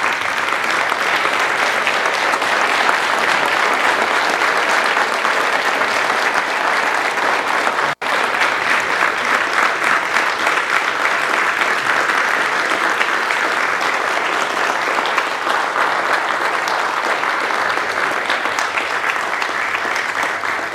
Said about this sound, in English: Church family, I want to ask you at this moment to show honor to those whom you owe honor by giving these men a standing round of applause.